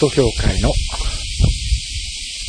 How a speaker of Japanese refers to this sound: これは駐車場に来ております。今年の夏このようにセミが強く鳴いているのは初めて聞きました。しばらくセミの声を聞きください。